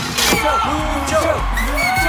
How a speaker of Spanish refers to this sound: A ver, respira, cálmate y cuéntale a los oyentes por qué hay gente allá abajo gritando tu nombre.